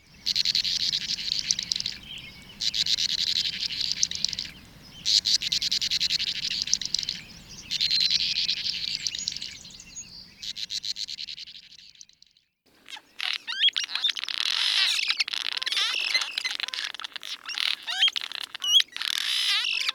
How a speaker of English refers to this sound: If you guessed swallows, you were right. You heard a bank swallow, cliff swallow, and tree swallow.